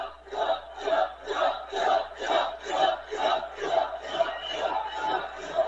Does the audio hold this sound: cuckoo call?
no